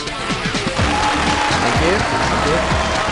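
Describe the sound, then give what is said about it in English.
Steady, dense applause fills the whole stretch at a constant loud level after a video game is completed on the insane difficulty, with a low voice faintly murmuring beneath the clapping. “Come on, give me an applause.”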